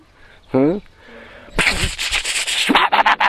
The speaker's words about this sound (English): Firecrackers, They allow it here in Mayapur? A little bit.